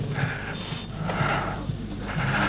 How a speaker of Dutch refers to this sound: Hijgt u